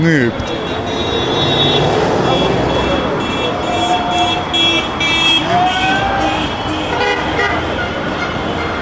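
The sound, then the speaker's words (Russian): Car horns honk repeatedly over a loud, dense street crowd in Rostov, Russia, celebrating a Russian team's match victory, with long and short blasts overlapping amid traffic and cheering voices in a festive outdoor din. “Ростов гудит, трещит, сигналит, поет и пляшет.”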